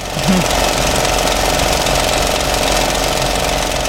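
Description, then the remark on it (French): A 35mm film projector running: a loud, steady mechanical whir with a fast, even clatter that continues unbroken for the whole stretch, with no one talking. “Moi, je dirais que le deuxième est un projecteur 35.”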